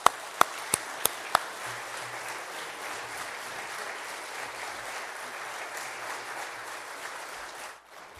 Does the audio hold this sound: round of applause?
yes